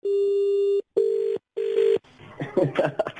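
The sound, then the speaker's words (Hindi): A telephone rings on the line: three loud, steady electronic tone bursts separated by short gaps, then a voice starts talking faintly over the connection. “थोड़ी देर के बाद फोन करूंगा. गुप्ता जी ने मेरे को पैसे दिए तो मैं कोई बात उनसे छुपाऊंगा नहीं. फोन उठा लेना.”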